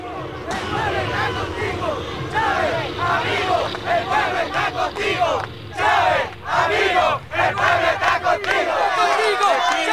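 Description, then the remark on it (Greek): A large crowd of supporters from Venezuela's shantytowns shouts and chants loudly in unison, demanding the president's return to the presidential palace; a dense wall of many voices rising and surging with rhythmic bursts throughout, continuous. “Η Μαϊμού, βλέπετε, είχε πολλούς υποστηρικτές, οι οποίοι ζητούσαν την επιστροφή της στο προεδρικό μέγαρο.”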